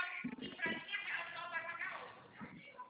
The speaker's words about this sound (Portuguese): Quem é a mulher que tá berrando aí? Você não tá no escritório? Você tá trabalhando no escritório? Sim, é porque eu trabalho aqui, que trabalho várias mulheres, por isso que fica esse barulho aqui.